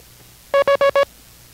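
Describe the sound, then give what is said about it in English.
Four short, evenly spaced International Morse code beeps at a steady mid pitch, each the same brief length, sounding alone over a faint low hum with no voices, given as a character in a Morse code lesson. “That was Victor.”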